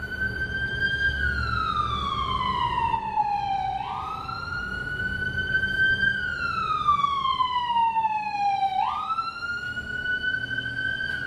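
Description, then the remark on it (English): An emergency vehicle siren wails in slow, sweeping rises and falls, about two full cycles, loud and steady over a low background rumble of traffic, with no one speaking. “I think that driver just loves Lois siren.”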